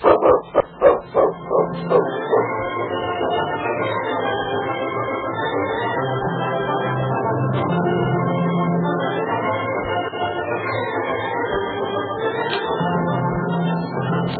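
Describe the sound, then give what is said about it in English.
A dog barks in a radio drama from the WXYZ Detroit studios, a quick, rhythmic burst of about six loud barks right at the start, then the barking fades into a steady, sustained musical backdrop with no talking. “I never thought about that dog of yours.”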